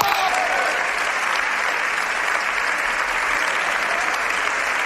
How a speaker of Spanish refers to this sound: Iban aplaudiendo, gritaban ¡bravo! A medida que avanzaban los segundos, la ovación crecía. Al final, todos en pie.